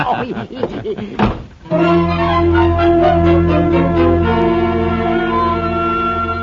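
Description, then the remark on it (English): A voice speaks briefly, then a door shuts with a single solid thud, followed at once by sustained, ringing bell-like musical tones that carry on to the end. “Close the door, will you?”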